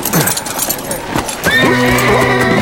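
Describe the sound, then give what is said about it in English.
A big gray horse on a ranch whinnies loudly in a long, shaky neigh, preceded by a few sharp hoof clip-clops. “He convinced the ranch foreman to let him try a big gray that looked fit enough to carry the big man.”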